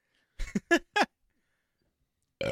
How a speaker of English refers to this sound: The burps are the worst, man. One of them's going to be a puke.